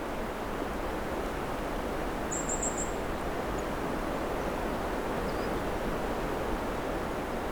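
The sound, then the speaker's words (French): A faint, brief bird twitter, one quick high trill and a tiny chirp later, over a steady rushing noise like wind or surf. “Un petit gazouillis, sifflement.”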